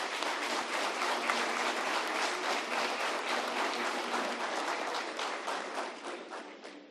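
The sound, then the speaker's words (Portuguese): The audience and city councillors in a municipal council chamber applaud warmly as a man receives the title of citizen of Juína. A dense, steady wash of many hands clapping together holds for several seconds before beginning to thin out toward the end. “E a plenária aplaude e os vereadores também o aplaudem calorosamente.”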